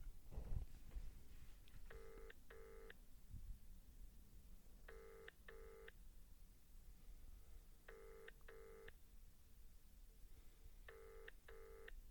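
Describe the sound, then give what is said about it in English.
A phone call to a friend ringing out on the line: four evenly spaced double-ring tones repeat about every three seconds, clear and steady over a low background rumble, with no one answering. “How long does it have to ring for before it goes to?”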